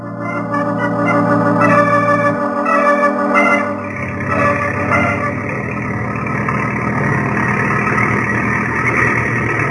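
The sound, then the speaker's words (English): A desert truck's engine runs steadily, a loud continuous rumble with a shifting low drone partway through, filling the whole stretch with no voices. “You may stop the desert truck now, Effendi.”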